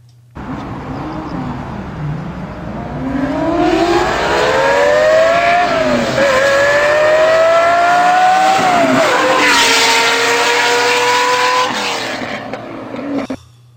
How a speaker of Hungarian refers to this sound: Valószínűleg mindnyáján hallottátok már ezt az autót, csak Porsche. Nagyon kevés eséllyel hallottátok tényleg így kiforgatva, mert ezt így kell. Na csak a hörgésből gondolom, hogy valami Porsche lehetett, ahogy visszahörgött a végén.